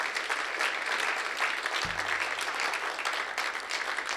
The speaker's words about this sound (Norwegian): Vi gir en applaus til sangeren og musikeren her.